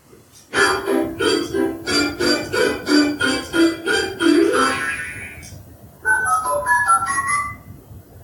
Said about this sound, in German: Ja, und natürlich wussten wir schon, was die Quelle dieser Geräusche war, nämlich ein Spieltischchen von Fisher-Price, was unsere kleine Tochter ausgeliehen bekommen hatte vor 2 Wochen. Und ja, das Gerät war eingeschaltet,